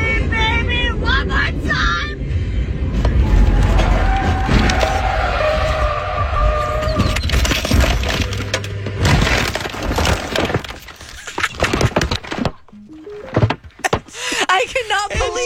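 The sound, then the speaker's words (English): A chaotic car crash as a driver loses control and the car rolls off the side of a road into a ditch, ending upside down: loud, repeated crunching impacts, scraping metal and breaking glass tumble over several seconds, with raised voices in the mix before it settles into scattered clatter. “And she lost control of her car and it rolled off the side of the road.”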